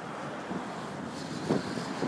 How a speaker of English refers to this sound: And as you can hear, there's no shortage of traffic on it.